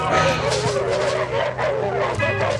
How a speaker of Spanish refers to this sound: Con furia y sorpresa, el comandante señala hacia los perros atados con gruesas cadenas. ¡Suelten los perros! Ellos olfatearán el rastro y nos indicarán el camino.